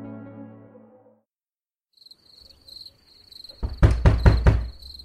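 Four loud, sharp knocks on a house door at night in quick succession, as a family member arrives home late from work, with crickets chirping steadily in the background; no one speaks.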